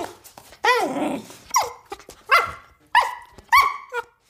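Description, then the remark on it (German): A voice imitates a female dog grumbling and complaining in the evening about a closed door: a drawn-out whiny groan, then four short, rising-and-falling grumbles in an uneven rhythm, fairly loud. “Und die hat gestern Abend dann, hat sie dann da rumgequengelt, ne?”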